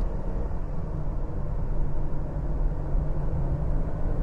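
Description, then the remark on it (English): A car engine revving high at around 5,000 to 6,000 RPM and holding steady while driving on a winding road, a continuous whining drone over a heavy low rumble, loud and unbroken for the whole stretch with no voices. “Can you hear that thing? That's 5,000 RPM. 6,000. Really whines, doesn't it?”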